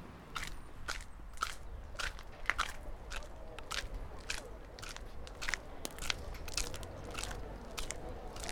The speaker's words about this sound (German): Habe ein köstliches Baklava mit Schokoladenüberzug gegessen, von einer total unfreundlichen Frau